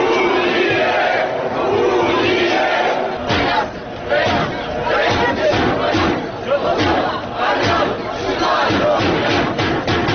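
A large crowd at a peaceful unionist street march for the unification of Moldova with Romania, on Ștefan cel Mare Boulevard in Moldova's capital, under police supervision, fills the whole clip with steady, loud massed voices, shouting and chanting together in rhythmic bursts, with no single voice standing out.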